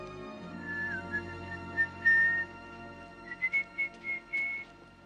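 Someone whistles a short, wandering tune, first a few drawn-out notes, then a string of quick, separate chirps, all moderately close over a low, steady background hum.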